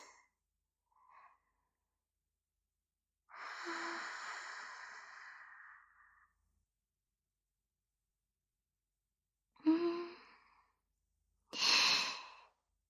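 Soft, breathy exhalations with no talking, breathed out to warm someone: one long, slow sigh-like breath out, then after a pause two shorter, airier puffs of breath.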